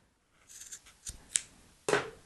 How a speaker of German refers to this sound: Das ist echt cool mit diesen Fäden. So, nehmen wir doch mal die. Nehme jetzt hier so eine Schere und schneide die wieder alle gleich lang.